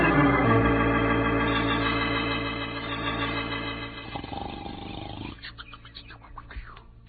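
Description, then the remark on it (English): A loud, rough snore drones for several seconds with a buzzing, rumbling tone, then fades into quieter, ragged rasping breaths toward the end. No talking is heard. “Snores of yours are shaking the whole earth.”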